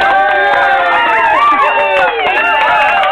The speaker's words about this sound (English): When you come on the show, when you come on, you can hear the crowd clapping for you like this year.